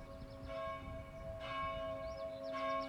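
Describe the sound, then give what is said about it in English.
A large bell rings out with long, sustained tones that resonate and hum continuously, with fresh strikes roughly every second, layered and reverberant, with no voices present. “Where's the sound? Not with the bell.”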